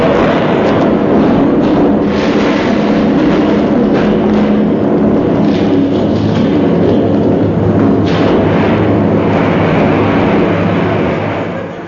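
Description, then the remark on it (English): A loud, sustained TNT explosion rumble fills the whole stretch, deep and roaring, with several heavier thuds bursting through before it begins to fade at the very end. No one speaks. “Because only idiots can hear explosions like that.”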